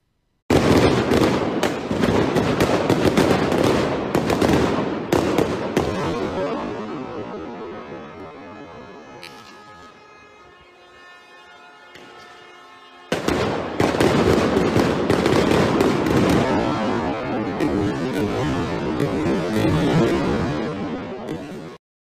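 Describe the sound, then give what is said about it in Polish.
Loud stun grenade bangs and sharp cracks, thrown by police toward protesters, burst in a dense, rapid barrage, ease into a quieter droning lull midway, then erupt again just as thick until the end. “Rzeczywiście tutaj była dyskusja, czy to są, czy to jest kostka brukowa, czy to są granaty hukowe.”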